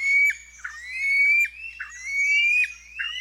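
A white-throated rail calls alone, giving a loud series of harsh squawks that slide into rising, whistle-like squeals, repeating in about three quick phrases.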